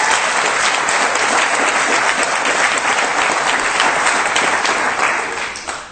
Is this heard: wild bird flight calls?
no